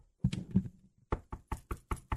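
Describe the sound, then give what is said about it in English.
A brief voiced sound, then six quick, evenly spaced knocks, a person imitating someone rapping on a door; no other talking. “hold on, Theo, let me get the door”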